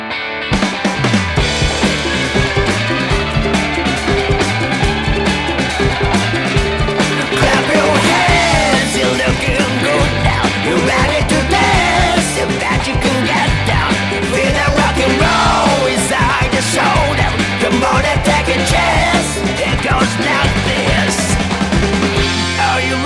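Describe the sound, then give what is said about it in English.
A loud, energetic song plays continuously, with a driving beat, heavy bass and dense full-band instrumentation that stays at a steady, high level from start to finish. “here's another great song from the …' album, …, the title track”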